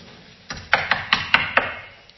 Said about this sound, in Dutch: Er wordt ineens op de deur geklopt.